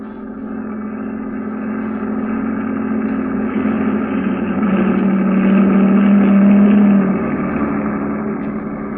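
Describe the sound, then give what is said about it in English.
A heavy truck in a convoy rumbles steadily, swelling louder as it approaches and passes, then easing off slightly. The deep, droning motor noise plays alone with no voices. “They'd stop to investigate the sudden appearance of a truck at the end of the convoy.”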